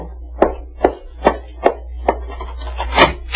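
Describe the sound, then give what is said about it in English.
Five firm, evenly spaced knocks on a wooden door, followed by a brief scraping rustle, over a steady low hum. No one speaks. “Oh, darling, someone's at the door.”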